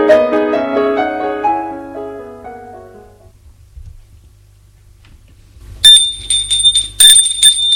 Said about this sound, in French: Un matin, Patrick entend sonner à la porte. Il va ouvrir.